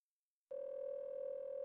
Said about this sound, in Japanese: こんな状態ですけど、電話出てもいいですか？